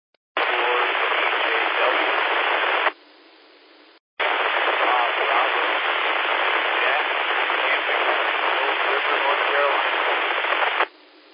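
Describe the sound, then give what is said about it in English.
Loud, hissing radio static fills two long bursts with a brief quieter gap between them, and a weak, unintelligible voice transmission from a station checking into the Blue Ridge 2-meter radio net is barely traceable beneath the white noise. “Okay, that last station that just checked in, you're really down in the white noise.”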